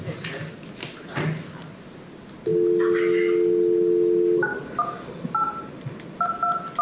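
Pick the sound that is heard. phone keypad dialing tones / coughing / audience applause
phone keypad dialing tones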